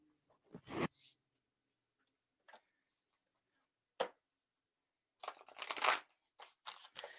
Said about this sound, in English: I'm shuffling three times and I'm just asking my cards what we need to know about the summer solstice.